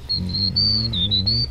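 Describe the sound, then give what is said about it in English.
A person whistles an imitation of a black-throated green warbler through pursed lips, without electronics: a thin, high, steady tone in linked notes that dips briefly in pitch and then rises again, over a low background hum. “Black-throated green.”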